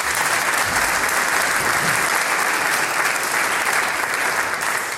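An audience applauds steadily to congratulate a person on a new role, a dense and even wash of many hands clapping at constant loudness for the whole stretch, with no voices rising above it.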